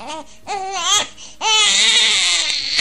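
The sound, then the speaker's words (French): A newborn baby born by caesarean cries in two loud, wavering wails, the second long and sustained after a brief breath, with no talking. It is the first baby of 2024 at the university hospital centre in Abomey-Calavi. “Il a fallu attendre 3 heures de loge pour avoir le premier bébé de l'année 2024 au centre hospitalier et universitaire de zone à Abomey-Calavi-Souava.”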